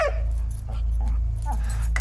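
A dog approaching at an old brick building makes a few short, high whining whimpers over a steady low hum in the background.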